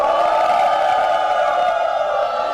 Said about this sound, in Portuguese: E temos mais uma vaia.